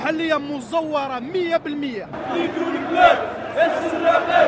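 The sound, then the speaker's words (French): A crowd of protesters on rue d'Idouche Mourad during Ramadan chants in unison, a rising and falling sung phrase, then the voices dissolve into a loud, steady roar of shouting and cheering. “Sur la rue d'Idouche Mourad, la foule est moins compacte que d'habitude, mais les manifestants chantent que rien ne les arrêtera, même pas le ramadan.”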